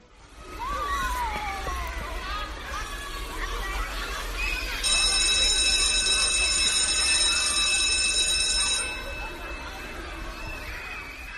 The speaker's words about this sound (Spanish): Suena el timbre. Por hoy se han acabado las clases.